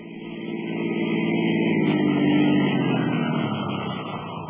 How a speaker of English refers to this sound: Dawson stopped the police car in front of my house.